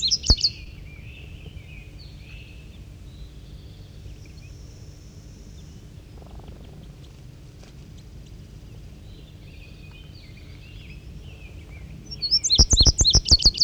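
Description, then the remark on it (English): Birds sing in a pine tree in high, bright chirps: a brief burst at the start, a long stretch of soft low rumble, then a loud, rapid run of repeated tweets at the end. “And I believe it's 5-3 there doing the singing.”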